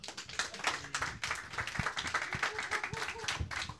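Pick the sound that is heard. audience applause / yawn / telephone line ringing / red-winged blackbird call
audience applause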